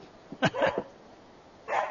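A dog barks a few times in quick, sharp bursts, then pauses before one more bark, heard at a moderate distance with no one talking.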